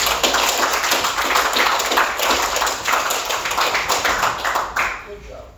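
A crowd claps steadily in a dense, loud burst of applause, many hands overlapping into a continuous patter that fades out near the end.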